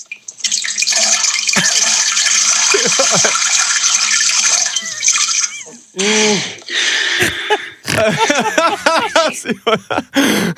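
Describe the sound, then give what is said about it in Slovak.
A toilet is flushed: water splashes and rushes steadily into the toilet bowl for several seconds, loud, with brief laughter over it before people start talking. “A neviem, či mi to teraz prehrá, ale keď som sedel na záchode a išiel Nahral som... Nahral si zvuk?”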